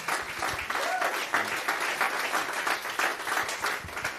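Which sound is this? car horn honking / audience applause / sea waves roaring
audience applause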